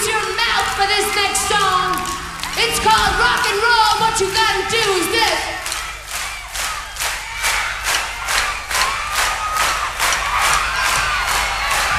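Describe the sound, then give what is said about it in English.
A concert crowd yells and cheers loudly, then breaks into steady, rhythmic clapping in unison that carries on to the end, with scattered shouts underneath. “We want you to clap your hands, and we want you to yell.”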